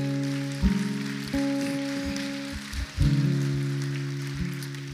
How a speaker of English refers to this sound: And anyone else that was your prayer? Five people. Why don't we just give applause for those who raised their hand?